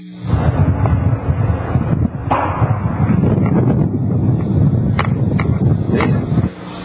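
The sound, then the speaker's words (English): Gunshots crack out several times at irregular intervals over a dense, rumbling roar, captured through the thin, muffled sound of a cell phone recording. “Let's play about a minute and a half clip of somebody on a cell phone with the gunshots going off, and we'll go back to our eyewitness guest.”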